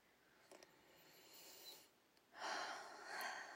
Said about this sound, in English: Get nice and comfy. Now I want you to breathe in and out.